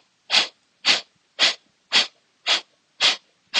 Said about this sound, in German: der kraftvollen Ausatmung. Atme tief durch die Nase ein und wieder aus.